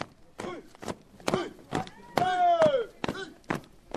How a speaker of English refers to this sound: It is Saturday morning in Sévaré, a town in central Mali. 50 young people are practicing marching drill. Their steps are supposed to sound firm, resolute, disciplined, which is not very easy because most of the young recruits are wearing flip-flops.